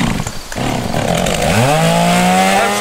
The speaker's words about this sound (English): Commercial with my Poulan Pro chainsaw running because I've personally tested my new Stinger Ballistic sunglasses by wearing them while cutting up down trees from Hurricane Laura.